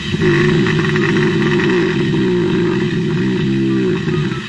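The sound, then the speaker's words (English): Five hibernating bears under a house in California give off a deep, continuous rumbling drone, loud, almost like an idling engine, with a slightly pulsing texture and no voices. “Okay, hibernating bears under a house.”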